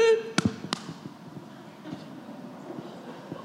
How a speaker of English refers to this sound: I can't believe you slapped me. Well, I got your focus now, don't I?